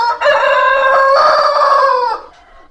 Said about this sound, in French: Je suis Sainte-Claire, le coq. Ne l'oubliez pas, dame peinte.